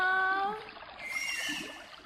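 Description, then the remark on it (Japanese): A dolphin whistles underwater: a steady high tone, then a few quick rising chirps, over a soft wash of water, with no talking. “すごい、イルカってこんな声で鳴くんだね。”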